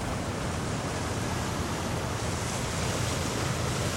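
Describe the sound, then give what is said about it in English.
Ocean surf crashes against rocks in a steady, continuous roar, full, with no distinct individual crashes standing out and no voices present. “It's getting colder. The sea. So much darker now.”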